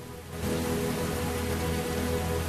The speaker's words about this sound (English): The rain's pouring down in the grassy field where the nest has been constructed. Fronds of grass blow in the wind, while the male rhea sits quietly on the nest.